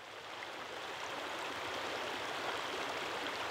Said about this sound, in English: On a sweltering Ozarks June afternoon, the 70-mile-long Mulberry River, which surges through deep rocky narrows and meanders over shallow gravel beds, is a favorite respite for humans and wildlife.